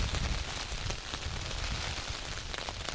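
Steady rain falls in mist on open moorland covered with heather, a continuous dense hiss of drops with scattered brighter patters, even in loudness throughout, with no voices.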